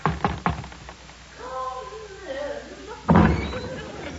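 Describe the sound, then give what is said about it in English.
Doors to Her Majesty's room opening: a few quick wooden knocks, then a long wavering creak of hinges, ending in a loud, heavy thud as the doors swing fully open. “She's through those doors there.”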